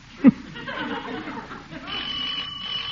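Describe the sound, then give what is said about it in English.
A doorbell rings with bright, sustained chiming tones, preceded by a brief sharp knock-like thump at the start, with a soft background murmur throughout. “Doorbell, shall I go on?”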